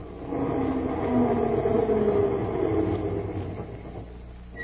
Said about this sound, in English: Does that sound familiar? A crowded bus is stopping to take on a passenger.